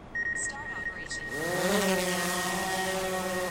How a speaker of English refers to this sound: The drone flies back and forth across the basin over the course of a few hours. It takes thousands of aerial photos to capture every crack and crevice.